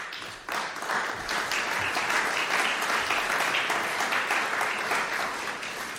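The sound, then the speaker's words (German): Sustained audience applause, with Deutschlandfunk staff among those clapping, a dense wash of many hands clapping at a steady, fairly loud level throughout, with no voices standing out. “Es freut mich sehr, dass nicht nur Deutschlandfunk-Mitarbeiter hier geklatscht haben.”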